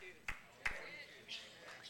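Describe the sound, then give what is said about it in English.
A lone person claps twice, two sharp, fairly quiet hand claps a fraction of a second apart, set against a soft room murmur. “And one person clap.”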